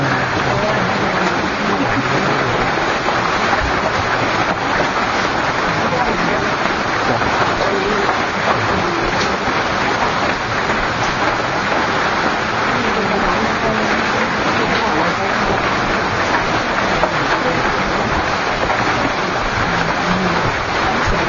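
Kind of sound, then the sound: nature, heavy rain falling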